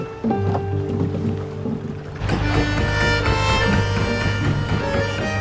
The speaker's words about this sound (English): They get on a boat.